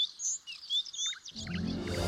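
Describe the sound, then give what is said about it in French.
Several birds chirp and whistle in quick, bright bursts. About halfway through, a fuller, lower wash of sound rises underneath while the tweeting carries on. “Et même lorsqu'elle frottait les marches du château en chantant, les oiseaux accouraient pour entendre sa voix.”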